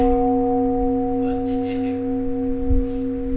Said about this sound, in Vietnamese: Thì tôi cho cái này quý vị ý nè, khi mà đánh một tiếng chuông, đánh tiếng chuông cho thầy đi, đánh tiếng chuông đi thầy tôi. Con đánh một tiếng chuông